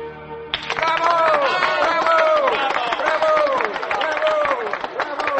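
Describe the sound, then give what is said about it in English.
Loud applause fills the hall of the Sarah Siddons Society, starting abruptly and continuing steadily, with voices in the crowd shouting bravos over the dense clapping, as Eve Harrington receives the award for Distinguished Achievement and is about to make her acceptance speech. “The hall rings with applause and bravos.”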